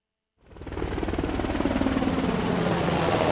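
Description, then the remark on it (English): A Navy Seahawk helicopter flying, its rotor thumping in a rapid, steady chop after a brief moment of silence, rising quickly to a loud, sustained roar with a broad engine whine and no voices. “The Navy Seahawk helicopter has a lift capacity of over 6,000 pounds.”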